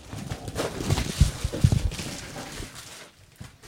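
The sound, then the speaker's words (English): Crinkling and ripping as a package holding another package inside is torn open, a quick series of irregular tearing and rustling bursts that build for a couple of seconds and then trail off into quiet handling. “I hate tearing these because I'm afraid I'm going to rip something.”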